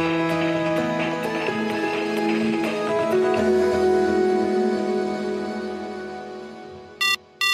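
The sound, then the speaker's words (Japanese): A telephone rings with two short, bright electronic bursts at the very end, right after a gentle instrumental melody fades out. The rings are fairly loud, with no voices. “お電話ありがとうございます。冒険商店でございます。”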